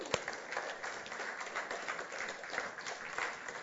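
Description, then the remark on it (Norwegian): An audience applauds to welcome back a former member, many hands clapping in a dense, crackling wash of sharp claps that holds at an even level throughout with no voices standing out. “Skal vi gi deg en skikkelig klapp?”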